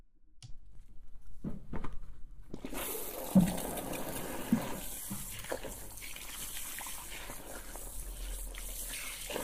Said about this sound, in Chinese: 好，等我一下，看一下热水器现在的水温啊，合适了。这个热水器有点问题，它有时候会特别热，有时候会特别冷，所以呢，我再次开之前要确定一下，应该是可以的。那我们开水冲头发了。